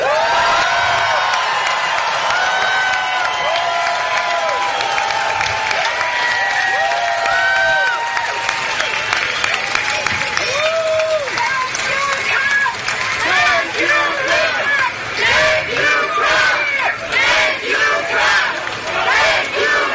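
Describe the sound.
A large crowd cheers and applauds loudly for about twenty seconds, greeting President Donald J. Trump, many voices whooping and shouting over steady clapping that grows denser and more rhythmic toward the end.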